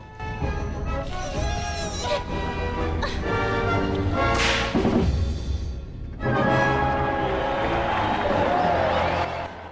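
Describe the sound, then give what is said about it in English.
Sharp whip cracks, a crab whipping a character struggling with a boulder, snap out over a busy, dense musical background, with one louder crack standing out midway and a murmur of crowd noise around it. “Sasha struggles with her boulder and is whipped by a crab.”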